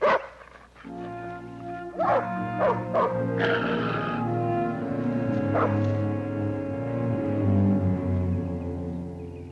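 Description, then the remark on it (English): A female dog barks several times in short, sharp bursts, clustered close together and then one more a bit later, over a steady sustained musical drone in the background. “That dog's vicious. Gotta put her on a leash.”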